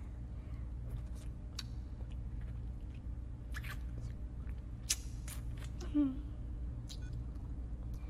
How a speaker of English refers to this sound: It seems you enjoy it when I tease your frenulum with my tongue as I slurp your pre-cum hungrily. Like this.